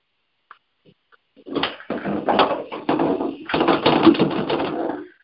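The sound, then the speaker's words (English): Busy rustling and shuffling of paper in several bursts over a few seconds, with a couple of soft taps beforehand and light thuds as the sheets are set down. “I brought some paper down.”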